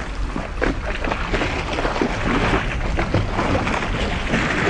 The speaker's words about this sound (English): On the iceberg, there's overhangs. You can hear the water that laps underneath the ice.